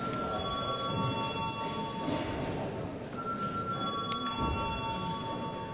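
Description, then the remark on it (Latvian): An electronic bell rings in steady, high sustained tones that pause briefly and start again midway, calling members of parliament to vote on declaring a bill urgent, over a low murmur of room noise and shuffling. “Lūdzu, zvanu.”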